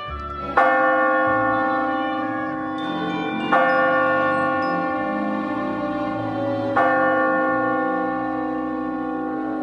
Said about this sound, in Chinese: 12点的钟声响了，是由教堂里传进来的。